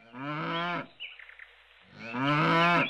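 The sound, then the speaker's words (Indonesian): A cow moos twice behind a grandfather's house, each a long, loud, harmonically rich low call lasting nearly a second, separated by a brief pause with faint background noise. No one speaks. “Ibu, kenapa di sini ada suara sapi?”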